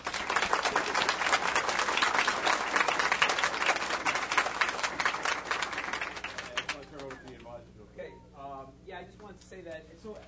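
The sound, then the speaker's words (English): An audience claps steadily and energetically for several seconds for students who ran a food drive, a dense crackle of many hands, before the applause fades and a person starts speaking. “Just like to give them a round of applause.”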